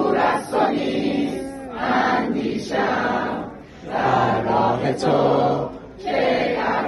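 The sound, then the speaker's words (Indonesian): A crowd of protesters filling a street in Iran shouts anti-government slogans in loud, rhythmic bursts, voices rising and falling together in repeated chant-like phrases with brief pauses between them. “Dalam salah satu video, demonstran yang membadati jalan terdengar berteriak, bangsa ini ingin kebebasan, ingin penyelesaian.”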